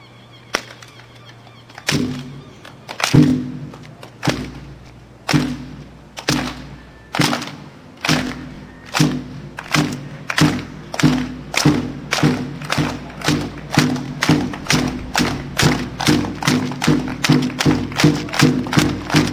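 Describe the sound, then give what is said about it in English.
A crowd at a rally in Monument Square, Portland, Maine, claps together in unison, starting with slow, spaced claps that gradually quicken into a steady, driving beat of loud, sharp hits, with no talking. “Clap with me.”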